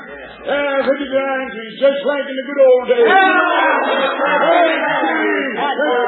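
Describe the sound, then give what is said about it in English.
A crowd murmurs and chatters continuously, many overlapping voices blending into a busy hubbub that swells slightly louder midway and holds steady to the end. “The minute that crowd finds out it's Gold Henry's up there for, they'll forget all about him.”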